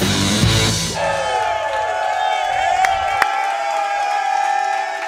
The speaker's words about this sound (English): Yeah! Yeah, what a great crowd here tonight. We're at the Hy-Vee Market Grill in Olathe on 119th Street. Sold out, excited crowd.